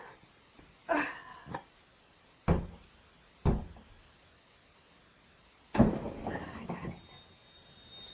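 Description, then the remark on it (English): A window being shut while it is raining outside: a brief scraping rattle, two sharp knocking thuds, then a longer rattling slide ending in a clunk, with quiet pauses between. “Is this window open?”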